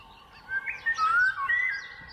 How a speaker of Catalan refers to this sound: Sí, si sentim aquest so és que és a la primavera, començaments d'estiu, i estem sentint un oriol. És un ocell que ens ve... que passa l'hivern a l'Àfrica i arriba aquí per nidificar en els boscos tant del tram final del riu Ter com de les dunes.